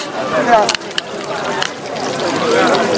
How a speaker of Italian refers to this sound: Si sente l'acqua.